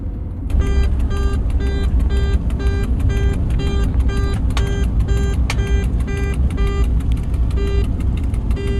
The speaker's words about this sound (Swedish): nu kommer en nödsignal här, eller vad jag ska kalla en larmsignal i alla fall. Och det betyder att du har kört för fort här. Ja, 5 km för fort.